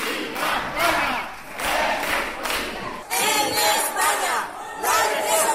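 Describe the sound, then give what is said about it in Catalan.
Citizens at a city council plenary session shout for and against a motion during the councillors' debate, loud, rhythmic bursts like chanted protest cries, repeating roughly every second with no clear individual words. “Durant la intervenció dels diversos regidors s'han sentit crits d'alguns ciutadans fins al punt que l'alcalde ha fet un toc d'atenció i ha amenaçat a desallotjar alguns d'ells que persistien a interrompre el debat.”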